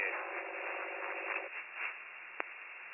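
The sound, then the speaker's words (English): Steady, crackling radio static fills the whole clip, with a faint buzzing tone running under it for the first half and a single sharp click near the end. No one speaks. “That was all static.”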